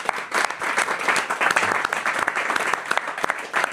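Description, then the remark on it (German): Steady applause from a group, dense overlapping hand claps with sharp individual cracks, sustained at a fairly even loudness for several seconds without a voice over it. “Auch mal Applaus.”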